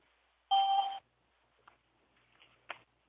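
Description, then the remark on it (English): A single loud electronic tone, a conference-call join beep, sounds for about half a second, then gives way to near silence broken by a few faint clicks and shuffles. “can you do that thing where you don't hear the beeps all over or no?”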